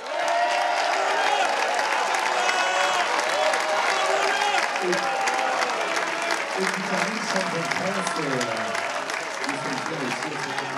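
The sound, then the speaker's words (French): A crowd applauds the 90 skippers and the Mini class of the 2023 Mini Transat sailing race steadily throughout, dense clapping with scattered cheers and voices mixed in, sustained at a fairly even loudness for the whole stretch. “Vous pouvez vous applaudir et on peut les applaudir.”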